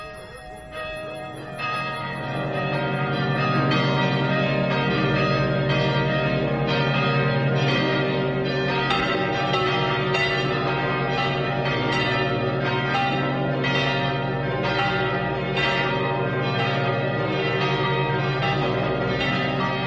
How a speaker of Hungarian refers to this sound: Harangok hangja kergesse.